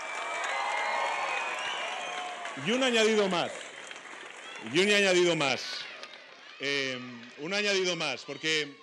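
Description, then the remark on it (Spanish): An audience applauds a historic European football championship win from the day before: steady clapping for a few seconds, a dense wash of applause, then loud voiced shouts or cheers burst out repeatedly over the fading applause. “Con lo cual, creo que lo que se logró ayer en términos históricos es extraordinario, es formidable y eso también merece un aplauso de todos y de todas, ¿no?”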